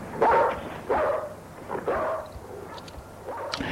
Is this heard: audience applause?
no